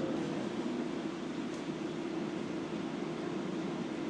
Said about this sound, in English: And the train's now slowing down. So that we are arriving into Stratford DLR station, which links up with the new abomination.